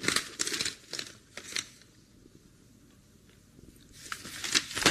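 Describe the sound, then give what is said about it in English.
A newspaper is handed over: crisp, loud rustling and crinkling of paper in a few bursts at the start, then quiet handling before another flurry of rustling at the end. No one speaks. “Hand me the paper, will you?”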